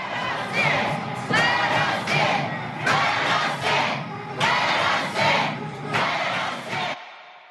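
A loud, agitated mob roars and shouts continuously while heavy thuds strike at irregular intervals as it tries to break down the doors of the Idaho Capitol building in Boise on August 24th, with lawmakers in session, before the noise cuts off abruptly.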